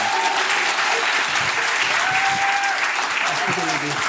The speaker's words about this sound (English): And so, ladies and gentlemen, without further ado, I would love to invite you to give a big round of applause for your brother, my brother,